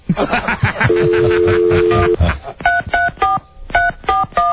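A quick series of touch-tone beeps from a phone system's keypad, each a short two-tone blip, pressed in an uneven rhythm after a longer steady tone, with some chuckling and voices underneath at the start.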